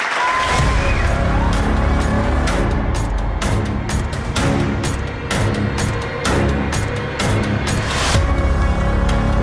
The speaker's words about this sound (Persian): تشویقشون بفرمایید.